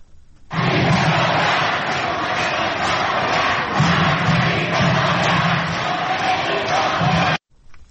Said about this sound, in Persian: تازه ترین ویدیوهای منتشر شده از اصفهان حضور بسیار پرتعداد معترضان رو نشون میده که شکل شعار دادنشون هم بسیار مصممانه است. میتونیم صداشو بشنویم.